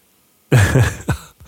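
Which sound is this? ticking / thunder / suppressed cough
suppressed cough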